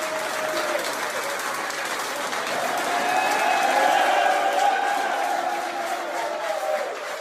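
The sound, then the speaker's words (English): A crowd at a college fraternity house claps and cheers steadily, a dense wash of applause with excited voices and shouts rising in the middle before easing slightly toward the end. “You wouldn't see the smiles and the clapping if old Joe or the actor that's playing Joe walked in.”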